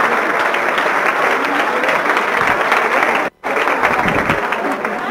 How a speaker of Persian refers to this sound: خودتون رو تشویق کن.